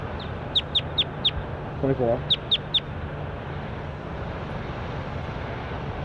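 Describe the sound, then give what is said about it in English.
A recorded bird, bird number 24, calls in sharp, high-pitched chirps: a quick run of four, then three more, over steady background noise. A voice briefly says a single word between the bursts. “That was bird 24.”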